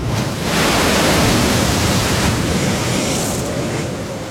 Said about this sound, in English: Waves the size of the Albert Hall come at you, hit you like granite cliffs.